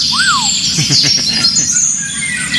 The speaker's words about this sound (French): il est jaune ou jaune verdâtre et il se confond avec les feuilles des arbres, c'est le... L'Oriole d'Europe